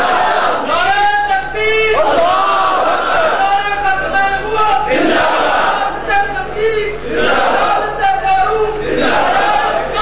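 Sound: crowd chanting slogans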